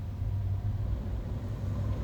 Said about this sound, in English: Truck behind me.